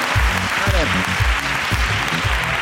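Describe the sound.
Steady audience applause for a winner, dense and continuous clapping at a fairly loud level, with voices and cheers mixed in underneath.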